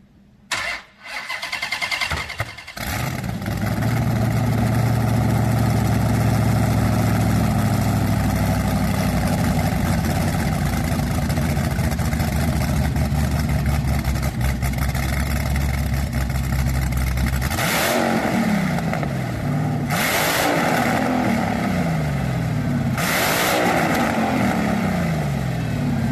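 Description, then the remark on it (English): A Hellephant 426 Hemi V8 crate engine, rated at 1,000 horsepower and 950 pound-feet of torque on pump gas, cranks and fires up, settles into a loud, lumpy idle, then gets blipped through several sharp revs that rise and fall near the end. Powerful, without any talking. “And here's a quick clip of what the Hellephant sounds like.”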